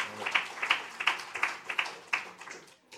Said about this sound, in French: Ce que je voulais dire aussi, mais oui, absolument, voilà, on applaudit.